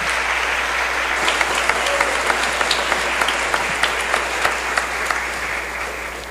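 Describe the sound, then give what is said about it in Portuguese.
A crowd at a feast of Our Lady of Fátima claps loudly and steadily for several seconds in thanks to the devotees, a dense wash of many hands with a few sharper individual claps standing out, no voices on top. “A você, o nosso agradecimento em forma de uma salva de palmas, bem forte.”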